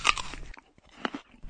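Loud crunching as someone bites into crisp food, followed by a few sharper chewing crunches spaced out after a brief pause. No voices are heard.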